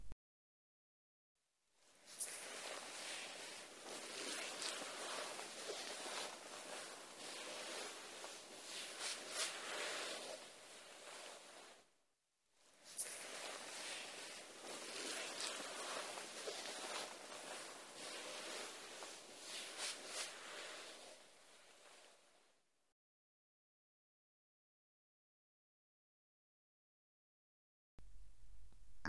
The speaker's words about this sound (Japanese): よし、泡洗浄はこのぐらいかな。泡を柔らかなタオルで拭き取っていきますね。